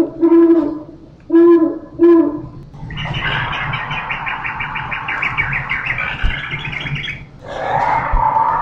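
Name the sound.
owl hooting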